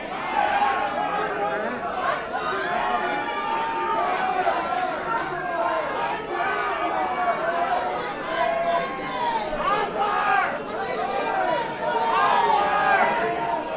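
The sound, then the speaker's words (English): Many voices talk over one another in a steady, dense babble, with no single speaker standing out, holding a fairly loud, even level throughout. “I hear all of you, but at the same time.”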